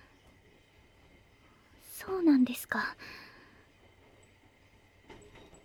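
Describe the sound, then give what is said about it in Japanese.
A packed rush-hour train, shaking hard, rumbles along in a steady, low background drone throughout, heard from inside the car, while a soft voice speaks briefly in a whisper over it. “電車がすごい揺れてぶつかってしまいました。”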